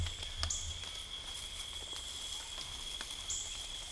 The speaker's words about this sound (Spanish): Estuvo lloviendo hace unas horas, todavía hay goteo. El cielo está nublado, cerrado. Hay mucha humedad.